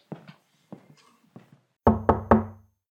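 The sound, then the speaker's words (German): Knocking on the wooden door of an inn late at night by travellers seeking a room: a few softer, quieter raps at first, then three loud, sharp knocks in quick succession, resonant, with no voices. “Oh, was weckt mich auf? Da muss ich wohl mal zur Tür und aufmachen.”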